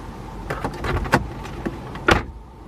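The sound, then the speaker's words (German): A few soft mechanical clicks and rattles, then a single solid thump as a car door that was not properly closed is shut firmly, with no voices. “So, da die Lampe hier hinten leuchtet, gehe ich mal davon aus, dass irgendeine Tür nicht richtig.”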